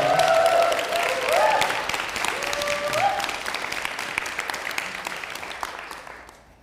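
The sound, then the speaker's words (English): An audience applauds guest author Samuel R. Delaney with dense, steady clapping, joined by a few whoops and cheers in the first seconds, then gradually thinning and fading out toward the end. “And then of course, just a round of applause to our amazing guest, Samuel R.”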